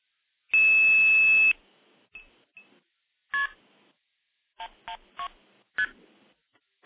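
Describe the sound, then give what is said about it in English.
The telephone code 112 is dialed: a steady one-second tone followed by a string of short, crisp touch-tone beeps at uneven intervals, clear, with no one speaking. “So 112 is the code for the Evan Dorbell Classic Tandem Standing. Classic tandem stacking tape. So I will dial that.”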